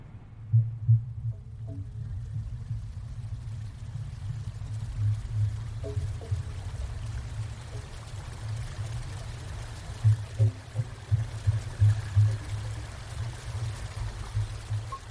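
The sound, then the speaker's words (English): Flowing river water captured both above and below the surface: a steady deep rumble with gurgling, throbbing pulses and a soft rushing hiss, continuous throughout with no voices. “This particular spot here, I did the river sound walk, and we basically recorded the sounds of the river from the outside but also from the inside, so kind of what it sounds like above and below, sort of.”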